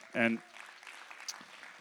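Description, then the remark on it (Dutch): A church audience applauds faintly and steadily for its English-speaking attendees, a soft spread of clapping that continues after a brief loud vocal burst at the start. “We kunnen al onze Engelstalige mensen applaus geven.”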